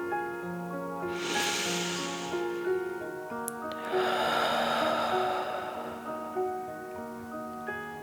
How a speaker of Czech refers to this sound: Hlubokým nádechem nosem naplníme celé své plíce. Na chvíli dech zadržíme. Potom vydechneme pusou a budeme předstírat, že jsme draci, co chrlí oheň. Připraveni? Nádech nosem a pomalý výdech pusou.